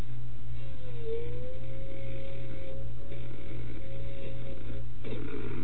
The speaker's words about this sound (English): What is that noise? I know that noise. Is that a blender or something? It's a fan. It's a fan on my computer. I'm talking about the noise that I'm hearing now. Yeah, that's my fan.